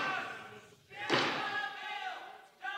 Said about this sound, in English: So yesterday at the Capitol, in the middle of the vote, there was a group of protesters who started chanting about how the bill was going to end in their imminent demise.